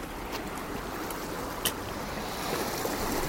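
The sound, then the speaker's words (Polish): Water of a wide, lively, strongly flowing river splashing and churning like small waves against the shore, a steady rushing wash with slight swells toward the end and one brief slap, with no voices. “Tak jakby fale, prawda? Uderzały o brzeg. Tak dziwnie płynie, no tak dziwnie.”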